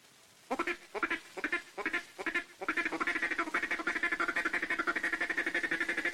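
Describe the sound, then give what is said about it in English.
A duck call is blown to make a duck mating call, the hand starting closed: about half a dozen separate, nasal quacks, then a fast, steady run of rapid-fire quacks that continues loudly to the end. No talking. “For the mating call, say kitty kit, kitty kit, kitty kitty kitty kit. With your duck call, begin with your hand closed and open it near the end of the kit.”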